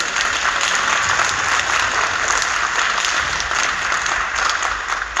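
A round of applause from a group, steady and fairly loud, dense clapping sustained for about five seconds with no talking over it.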